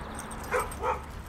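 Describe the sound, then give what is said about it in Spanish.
A black-and-white collie named Pickles, out on a walk in southeast London, gives two short, whiny barks in quick succession, somewhere between a yelp and a whimper, over a steady low background hum. “Una semana después, un lanchero llamado David Corbett y su perro Collie, color blanco y negro de nombre Pickles, salieron a dar un paseo por el sureste de Londres.”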